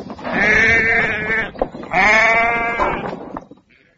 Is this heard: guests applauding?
no